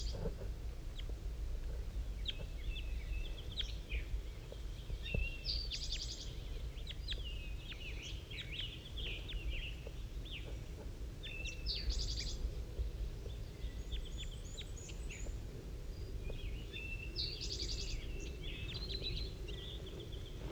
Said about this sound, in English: Oh, one of the wild birds is coming in now. I just saw it land in the pine tree. 5-3 is calling to it.